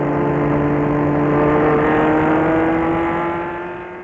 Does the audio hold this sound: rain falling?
no